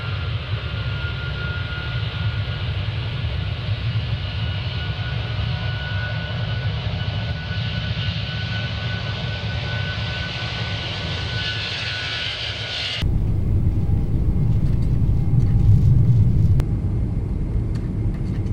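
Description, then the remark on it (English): A loud, steady aircraft engine drone during takeoff with deep rumbling and a constant whine, shifting abruptly to a rougher, more roaring tone partway through as power builds, continuous with no voices. “Engine temp ready for takeoff.”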